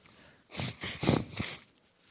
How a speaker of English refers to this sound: I hate to blow my nose on the microphone, but you got to do what you got to do.